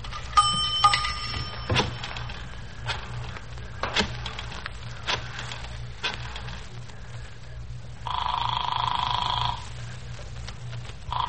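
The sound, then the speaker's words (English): A dime drops into the slot of a payphone in a drugstore phone booth with a bright metallic chime, followed by a few sharp mechanical clicks and, later, a steady humming tone lasting a second or two. “I found a dime and dropped it in the slot.”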